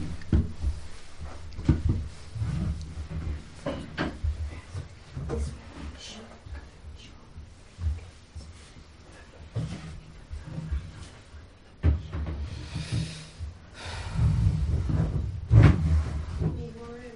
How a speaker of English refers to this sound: So just all moving your chair, just move in a bit. Move forward a bit. So just move over, away from the window then.